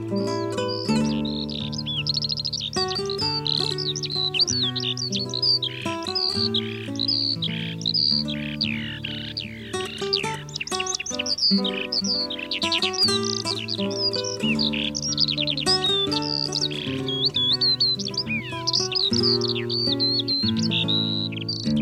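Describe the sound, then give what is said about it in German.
A Eurasian skylark pours out a long, continuous stream of rapid, high warbling trills and chirps, loud, over a steady low musical backdrop throughout. “Das war die Feldlerche.”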